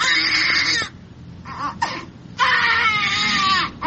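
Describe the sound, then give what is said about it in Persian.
Newborn babies, born addicted to drugs because their mothers used narcotics during pregnancy, wail loudly in long, strained cries, with a few short whimpering bursts in a brief lull before another sustained crying fit. “اینها اطفال هستند که مادرانشان در هنگام حاملگی از مواد مخدر استفاده میکردند و این نوزادان نیز معتاد به دنیا آمدند.”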